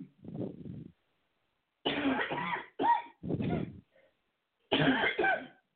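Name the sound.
cough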